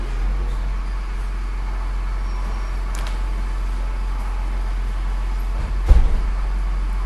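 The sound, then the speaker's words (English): A steady, droning truck engine rumble with broad road noise, heard inside the truck through an open window at the back, fills the whole stretch, fairly loud, broken only by a brief knock or thump near the end. “You shut that window back there to keep the noise out in that truck.”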